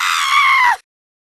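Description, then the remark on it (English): A single loud, high-pitched scream holds steady for under a second, strained and shrill, then cuts off abruptly into silence. “What's with all the girly yelling?”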